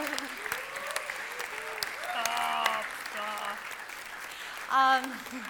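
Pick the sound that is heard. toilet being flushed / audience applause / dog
audience applause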